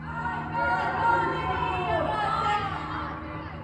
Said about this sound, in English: These chants spread between buildings and through Iran's capital city over the heads of the security forces below. Nearly all are women's voices. They chant from balconies, from open windows.